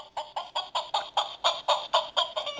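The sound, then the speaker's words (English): A toy noisemaker produces rapid chicken clucking, about eleven evenly spaced squawky clucks in a steady rhythm, fairly loud, with no voices. “For example, there is the sound of a chicken clucking.”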